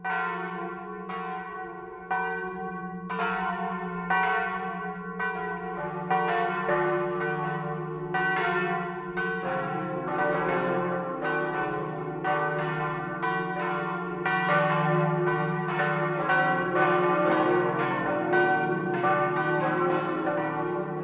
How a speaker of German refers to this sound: Das Mittagsläuten kommt heute von der Pfarrkirche St. Josef in Neuenburg vom Wald.